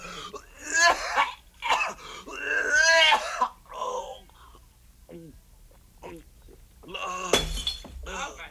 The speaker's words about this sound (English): He knocked over the pitcher.